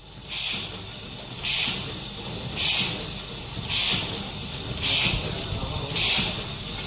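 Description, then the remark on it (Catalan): A restored boat slipway winch at the port of Segur de Calafell runs with a steady low mechanical rumble, punctuated by six sharp hissing puffs spaced about a second apart in an even, chugging rhythm. No one speaks. “Aquest és el so que fa la maquinilla de Calafell un cop s'ha posat en marxa.”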